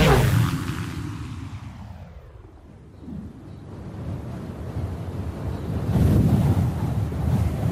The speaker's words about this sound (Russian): Солнце скрылось за тучами. Порывы ветра кружили листву.